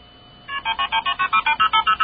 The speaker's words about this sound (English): Yes, I can see you did have the KP and start tone there.